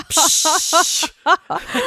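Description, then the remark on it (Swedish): A voice imitates a spray can being sprayed, as once heard over a phone call: a sustained, bright hiss held for about a second, with short voiced syllables mixed in, followed by brief speech. “Och då så sa du så här, du kan få vara med och lyssna när jag sprayar. Ja, och så bara hörde man så här.”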